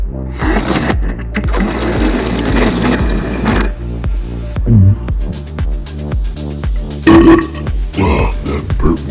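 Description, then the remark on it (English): A long, loud burp, rumbling and croaky with a pulsing, drawn-out texture lasting several seconds, starting amid a burst of breathy, hissing noise, after a sip of Saputo Dairyland partly skim milk from a carton in Regina, Saskatchewan. “It's a Dairyland burp in Regina.”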